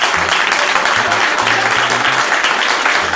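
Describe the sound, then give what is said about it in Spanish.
A ceremony crowd applauds loudly and steadily for the president of the Mexican Commission for Cockfighting Promotion. A dense wash of clapping hands fills the whole few seconds, with a faint low hum beneath it. “Un fuerte aplauso que queremos resaltar.”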